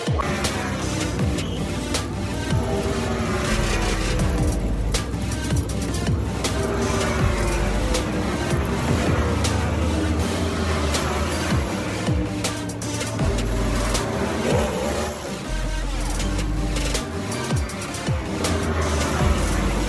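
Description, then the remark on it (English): Several race car engines start and roar loudly and continuously, revving with rising and falling pitch in a dense, overlapping rumble that fills the whole stretch without letup. “Start your engines. You're about to hear that in a minute.”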